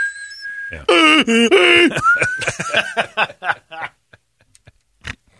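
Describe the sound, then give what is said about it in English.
A voice imitates a hearing aid's whistling: a thin, steady high-pitched tone, then loud warbling vocal squeals, trailing off into broken laughter-like sounds and quiet clicks. “The whistling of the hearing aid was going.”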